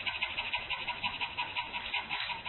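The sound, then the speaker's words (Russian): A person imitates a dog's shallow panting: a quick, steady train of short, breathy huffs with no talking, at a moderate, even loudness throughout. “Поверхностное дыхание, как называется, есть вид собачьего дыхания, вот такой.”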